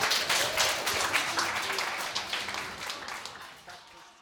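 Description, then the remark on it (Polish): A crowd applauds steadily, a dense wash of many hands clapping at once that holds loud and even, then tapers slightly toward the end. “Wielkie, historyczne, orgiastyczne brawa.”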